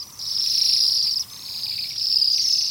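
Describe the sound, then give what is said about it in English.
A flock of birds with red, yellow, white and black plumage and tails tipped in yellow gives thin, very high-pitched calls that blend into a steady, shimmering chorus, with a brief lull midway before the calling swells again, in winter among orchard branches in a canyon. No one speaks. “Add to this a tail dipped in yellow, and you have a bird that seems to have sprung from a painter's palette.”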